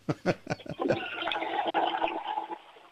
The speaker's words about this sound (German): Oh, das war aber eine tolle Klospülung.